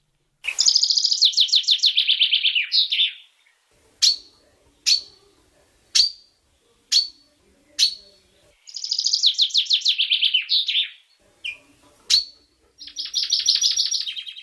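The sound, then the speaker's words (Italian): A chaffinch sings clear: three bright, descending trilled phrases, each ending in a flourish, with sharp single chirps spaced between them. No voices. “Ma ricordatevi, anche se domani cadranno in tanti, il canto del fringuello tornerà ogni primavera.”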